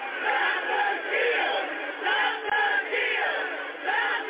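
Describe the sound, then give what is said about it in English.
A large crowd of rioters on the east side of the Capitol shouts and roars continuously, many voices blending into a dense, loud wall of yelling that swells and dips in waves without any pause. “Here's what that crowd looks like on the east.”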